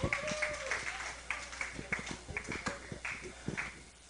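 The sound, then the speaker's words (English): Audience applause for the competitors, with sharp, uneven claps rather than a dense roar, plus a high whistle-like tone and crowd voices mixed in. “Let's give the competitors another round of applause.”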